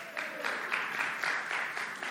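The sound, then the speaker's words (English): A crowd applauds steadily, a dense wash of many hands clapping at once with a rapid, slightly pulsing texture, moderately loud and with no voices over it, clapping at the speaker's mention of his upcoming 25th wedding anniversary. “And she's not even here to hear your clap.”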